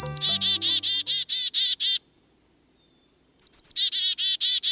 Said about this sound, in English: An adult black-capped chickadee flies in toward its nest, carrying a beakful of fresh insects.